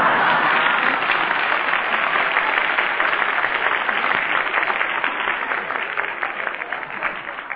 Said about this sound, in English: And I didn't ask for any applause either.